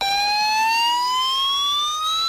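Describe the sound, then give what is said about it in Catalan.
A loud, steady civil warning siren for chemical accidents, tested in a Protecció Civil preventive exercise in Terres de l'Ebre and Tarragona: a sustained electronic tone slowly rising in pitch, sounding alone with no voices. “Així sonen les sirenes d'avís a la població en cas d'accident químic.”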